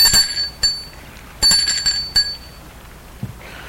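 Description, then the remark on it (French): A doorbell at a parents' home rings in several short, bright metallic bursts, about four rings with high ringing tones that quickly fade, irregularly spaced, with no voices. “Il va sonner chez ses parents.”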